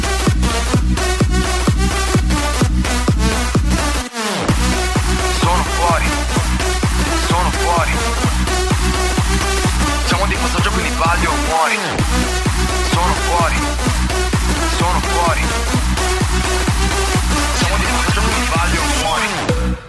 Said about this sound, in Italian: Ah, senti come suona, senti come va. Senti che base qua.